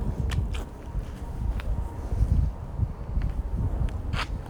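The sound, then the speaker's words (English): Shoes crunch on fallen leaves in a loose walking rhythm: half a dozen brittle, crackling steps at uneven intervals over a steady low rumble, with no voices. “I can hear my shoes crunching against the leaves on the ground.”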